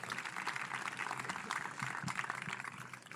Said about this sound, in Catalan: Aquest aplaudiment és per tots ells.